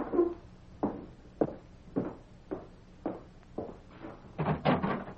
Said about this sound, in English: You're the only fella new enough in town to knock on the door before coming in.